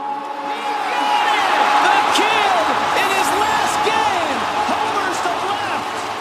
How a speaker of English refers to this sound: I mean, think about going to a ball game and the sound of a bat making contact with a ball, that cracking sound, and the rush that you have when you hear that, or the roar of the crowd.